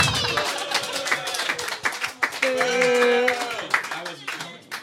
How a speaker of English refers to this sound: Clap and boo at the same time.